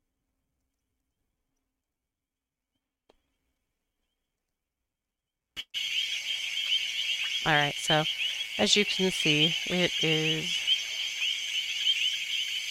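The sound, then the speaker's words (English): A dense nighttime insect chorus at the Tembe Elephant Park in Africa, heard through a park camera: a steady high-pitched shrill drone like crickets starts abruptly after several seconds of silence and continues throughout, with a man briefly speaking over it. “So there's nothing to see as far as animals right now, but you can hear what it sounds like there, and it's pretty amazing. So this is the African Tembe Elephant Park.”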